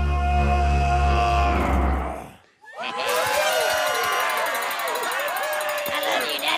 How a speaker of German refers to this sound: Das ist der berüchtigte Schrei des Ogers in der Verfilmung von Shrek. Wobei der Schrei scheinbar weniger furchteinflößend als vielmehr unterhaltsam zu sein scheint.